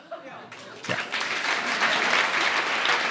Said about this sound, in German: Ein Applaus bitte für alle, die eine Herzmassage können.